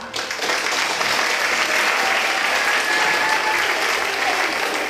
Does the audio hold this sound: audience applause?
yes